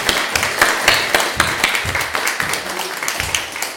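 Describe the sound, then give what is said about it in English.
A crowd applauds steadily for the nativity play performers, dense overlapping hand claps forming a continuous crackling wash with sharper individual claps popping out throughout. “another round of applause for all of our wonderful nativity players.”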